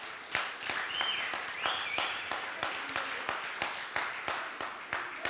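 An audience applauds steadily during a sermon, giving God a hand clap, with dense overlapping claps and a few sharper individual claps standing out, plus a brief whistle or cheer rising above the clapping.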